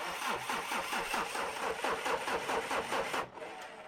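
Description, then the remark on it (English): A car engine cranks over and over in a steady, rapid chug, straining to start without catching, then the cranking cuts off abruptly near the end. Loud, with no voices. “Mum gets into the car. Please go, car, says Mum.”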